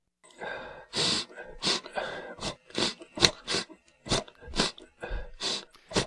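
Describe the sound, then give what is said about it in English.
Repeated nose sniffling, recorded after a cold day cycling in Manchester, about a dozen quick, airy, wet-sounding sniffs in an uneven rhythm, some short and some drawn out, with no talking. “There's also various types of, body sounds to categorize them, including the classic sniffling.”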